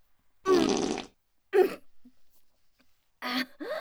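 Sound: farting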